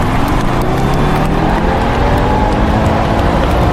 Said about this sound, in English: Maximum power to the jet engines. Go!